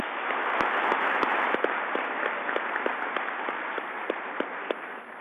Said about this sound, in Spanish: ¿Por qué no se ponen de pie los integrantes del SENA de Cundinamarca? Demos a ellos un aplauso grande.